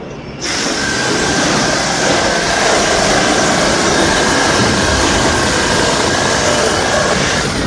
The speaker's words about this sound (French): Oh là là, alors là, c'est une scie. C'est mieux? Ah bah oui, parce qu'on a moins mal au rein.